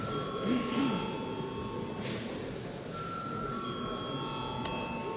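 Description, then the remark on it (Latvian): A parliamentary voting bell, called for before a vote on a bill, rings as a steady, sustained electronic tone for several seconds, its pitch shifting slightly partway through, over a low murmur of background noise. “Paldies, lūdzu, zvanu.”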